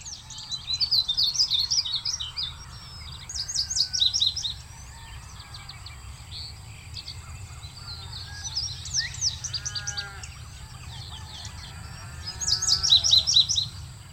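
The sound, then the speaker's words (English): Several open grassland birds sing in open country, bright high-pitched phrases repeating in bursts with pauses between, some calls and chips in the gaps, over a low steady rumble of background noise. “These songs of open grasslands celebrate sun and heat and life in the open country.”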